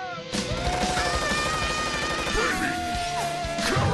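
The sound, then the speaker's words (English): A loud cannon-like blast, from a cannon shooting carrots in an ad for baby carrots, bursts in after a brief pause, followed by a dense, roaring barrage of booms and crashes layered over driving, dramatic music, with no talking. “In this ad, carrots shoot from a cannon.”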